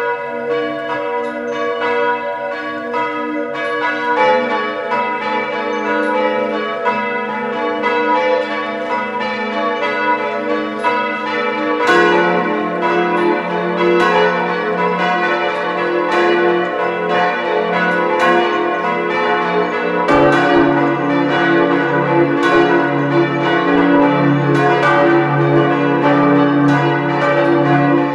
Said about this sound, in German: Es ist 12 Uhr. Sie hören die Glocken der Pfarrkirche St. Martin zu Feistritz an der Gail in Kärnten.